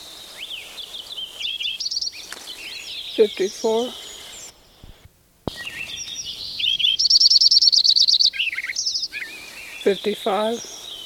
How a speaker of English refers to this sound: Both Lincoln sparrow number 6 and 7 are singing. This is number 7.